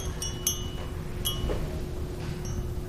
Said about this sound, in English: It's a wind chime. Now, this is what you can hang from the front or the back of your house in the unlikely event the wind ever blows in West Texas. You'll know. See? But it's not just any wind chime. It's got primary colors. Blue, yellow, red.